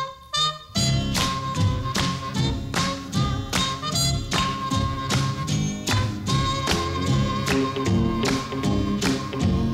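A recorded original song's instrumental intro plays loud, with bright sustained chords over a steady, bouncy beat of sharp percussive hits and no singing yet.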